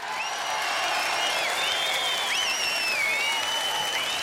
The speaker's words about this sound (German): Unser Thema heute ist der Traum von einer eigenen Band, von gigantischen Bühnen, von Auftritten auf der ganzen Welt, womöglich so einem Applaus, wie hier eben gehört, und vom Leben als Popstar oder Rockstar.